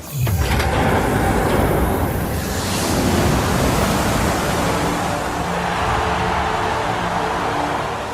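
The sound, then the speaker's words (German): A loud, steady roar of water gushing out in a heavy torrent from opened floodgates in the film Mad Max: Fury Road, filling the whole stretch with dense, unbroken rushing noise that stays powerful throughout. “Von Waterworld über Mad Max Fury Road, wo die Leute sehnsüchtig darauf warten, bis der böse Herrscher die Wasserschleusen aufmacht.”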